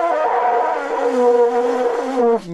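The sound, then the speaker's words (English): A person tries to blow a vuvuzela, the long Zulu horn heard at the 2010 World Cup, in one long, loud, buzzing drone with a steady low pitch, wavering slightly before cutting off abruptly near the end. “But by now, everybody knows that the droning, blaring, endless, buzzing sound that has defined the World Cup of 2010 is the previously unknown but now infamous vuvuzela, a traditional Zulu instrument that looks like a long horn”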